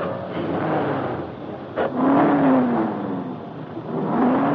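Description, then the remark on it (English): A cold engine in a new convertible roars steadily in a parking lot. After a brief click-like burst as the starter button is touched, it is raced and revs up, its whining pitch climbing and falling in loud surges with no one talking. “Then the attendant entered the young publisher's new convertible and touched the starter button.”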